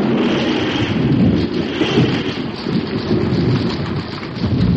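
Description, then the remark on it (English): Heavy rain pours steadily in a storm with lightning, with deep rumbling thunder rolling underneath throughout. No voices, just the dense, continuous wash of rain and low booming. “Keep away from the trees, Father.”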